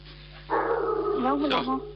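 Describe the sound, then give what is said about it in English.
A neighbor's dog lets out one loud, drawn-out bark that stretches into a wavering, howl-like cry, standing out clearly over a low background hum. “The neighbor's one. Vicious dog, sister. I'm getting scared here. Barking so loud”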